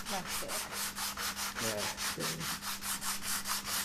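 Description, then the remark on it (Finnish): Sandpaper rasps back and forth over a wooden bar stool in a steady, quick rhythm of about four strokes a second, each stroke a dry, hissing scrape over a faint low hum. “Tämä on nyt sitä nyhräämistä.”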